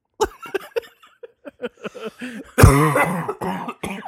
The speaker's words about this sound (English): Oh my God. Oh my God, not my smoker's cough. Oh, oh God.